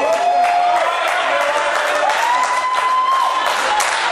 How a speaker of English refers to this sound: You think because I'm getting applause, you're helping the show. Not. They're applauding because I'm making fun of you.